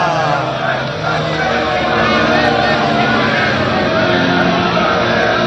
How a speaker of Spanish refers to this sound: Ahora ya se mezclan los gritos de los jugadores del Barça con la megafonía del estadio de la Cartuja.